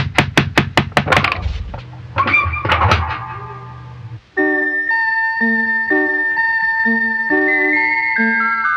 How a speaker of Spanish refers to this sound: ¿Y si tocamos la puerta?